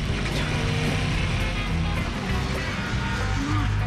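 A loud, steady RV engine drones and revs on a steep, scree-covered rocky slope off any marked road, the RV not moving while balanced on a mound of rock; its low rumbling pitch wavers and climbs near the end, with constant gritty noise over it and no voices.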